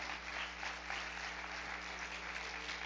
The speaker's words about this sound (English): Let's give him a big hand clap.